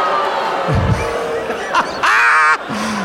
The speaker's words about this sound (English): Booing. Everyone in the audience right now is dressed as characters from Blues Brothers 2000.